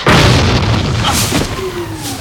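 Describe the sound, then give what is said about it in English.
Debris crashes down onto the floor of a volcano: a loud, booming impact opens, then heavy rumbling continues with a few further crunching hits as it settles. “Debris smashes onto the volcano floor.”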